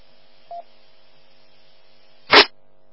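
Over a faint steady line hum, a short electronic beep sounds once, followed a couple of seconds later by a loud, brief clunk as a telephone call is picked up. No one speaks.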